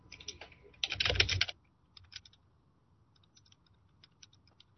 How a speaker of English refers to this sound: Sorry for the typing.